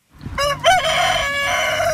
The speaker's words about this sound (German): Ein Hahn, der kräht, gehört zum Bauernhof.